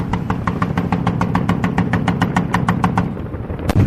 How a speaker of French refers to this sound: La preuve, quelques kilomètres plus loin, au sommet d'une montagne, après des lacets serrés, des tirs résonnent. Les militaires afghans sont victimes d'une embuscade. Ils répliquent à l'arme lourde. Mortiers, canons, mitrailleuses.